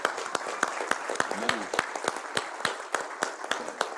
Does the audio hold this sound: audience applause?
yes